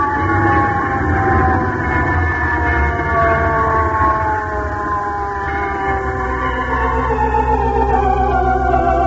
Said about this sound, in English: And then at last came the clang, clang, clanging bell of the fire truck from the town. Listen, everybody.